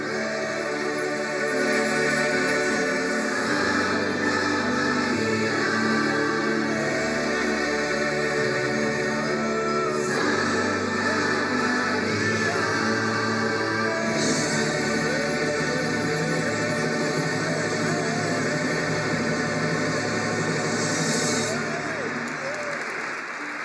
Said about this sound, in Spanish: Pues podéis escuchar la ovación del público ante el término de esta canción, también interpretada por el coro.